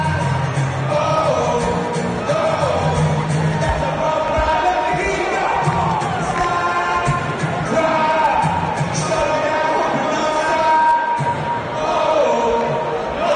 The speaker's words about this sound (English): Are they singing? I can't tell if they were booing. There's booing.